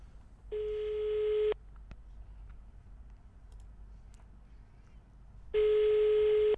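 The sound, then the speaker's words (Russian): Two ringback tones on an outgoing phone call to an Udmurt reception office, each a steady, buzzy mid-pitched beep lasting about a second, separated by roughly four seconds of quiet line hiss. No one speaks. “Кать, как гудки? Гудки пошли.”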